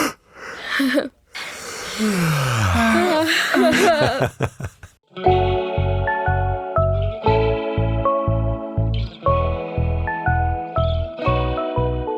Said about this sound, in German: Ich werde jetzt mal ganz herzhaft gähnen. Und dann könnt ihr auch nochmal herzhaft gähnen. Und alle, die zuhören, werden wahrscheinlich auch den Impuls haben zu gähnen.